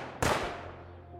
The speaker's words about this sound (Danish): Og han er lige ved at sætte sig, da en ung mand i selskabet pludselig trækker et håndvåben frem, sigter og affyrer en byge af skud.